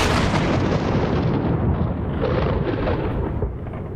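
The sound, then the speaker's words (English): A loud, sustained thunderclap rumbles heavily through the low end for several seconds, a deep booming roll that stays strong throughout and fades only slightly at the end, with no voices. “I've never heard a thunderclap like that. I felt it in my bones.”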